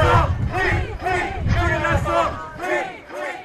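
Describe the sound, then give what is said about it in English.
A crowd of protesters supporting Julian Assange chants in loud unison outside Woolwich Crown Court in rainy London during his extradition hearing, voices rising and falling in repeated rhythmic phrases over a steady low rumble of background noise. “Chants from the protesters could be heard throughout the proceedings.”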